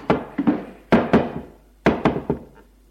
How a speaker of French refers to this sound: Frappe à la porte de la chambre de son frère.